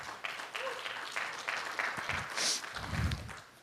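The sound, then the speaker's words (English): A church audience claps during a service in a dense, scattered patter for a few seconds, the applause steady and moderately loud with a brief swell near the end, no one speaking over it. “I was gonna pick on y'all for that clap, but I won't.”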